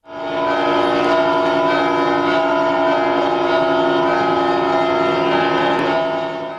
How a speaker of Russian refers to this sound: И вот долгожданный торжественный звон колоколов и принесение святой иконы в стены собора.